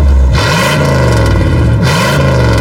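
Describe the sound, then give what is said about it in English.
A loud eight-cylinder car engine idles with a deep rumble and revs up twice, its pitch climbing and falling back each time, with no voices. “There was a time when a car had 8 cylinders.”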